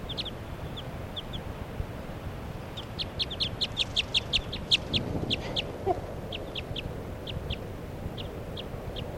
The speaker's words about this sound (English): A little bit of foliage, wild bird perched right next to 40's cage. It's a very light colored bird, female I think. And that's her. It's calling in response to bird 3 at 7.